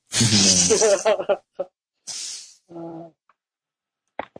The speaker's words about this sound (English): Oh, My dog fell asleep on my lap and he's snoring. It's pretty goddamn cute.